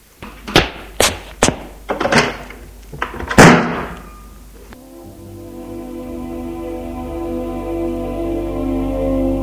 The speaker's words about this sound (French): Il quitte la pièce en claquant la porte.